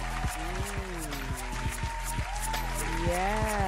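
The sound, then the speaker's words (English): A crowd in New Bonoboville applauds steadily with dense, continuous clapping as a guest is welcomed, while voices whoop and call out over it for the few seconds it lasts. “come here and let's have some applause.”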